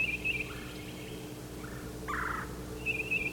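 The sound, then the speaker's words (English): A bird known as yellow calls in short bursts, calling back and forth with another bird at a crossing: a high trilling note, a lower rasping call in the middle, then the high trill again, all over a steady low rumble of background noise. “Here's yellow, yellow calling again.”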